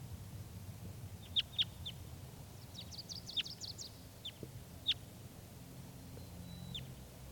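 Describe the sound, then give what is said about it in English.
A wild female bird gives sharp, high chirps: a few isolated notes, then a quick flurry of thin calls, then scattered single chirps, all over a steady low rumble with no talking. “This is the wild bird.”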